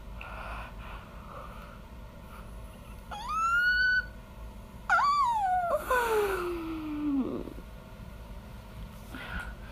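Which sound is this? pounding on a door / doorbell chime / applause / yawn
yawn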